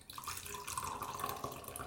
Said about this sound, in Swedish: Nu ska jag bara hälla upp lite kaffe här. Det kanske hörs.